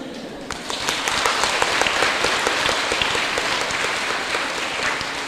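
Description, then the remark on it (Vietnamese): An audience claps steadily and densely for several seconds, a continuous wash of many hands with no voices standing out, holding at a fairly even loudness throughout. “Nghe cái vị vỗ tay mà có an ủi.”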